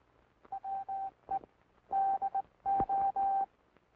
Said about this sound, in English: Listen to the sounds of the key. These sounds are transmitted in International Morse code.